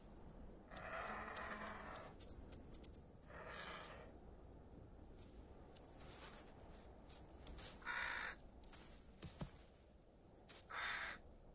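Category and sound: bird, crows cawing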